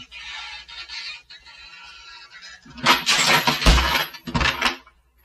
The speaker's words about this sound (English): Darn, darn. I shouldn't have let it slam. Every time I do it, breaks the dishes in the house across the street.